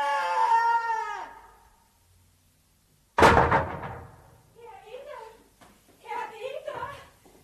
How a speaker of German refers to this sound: Jetzt hat er die Schubladen runtergeschmissen.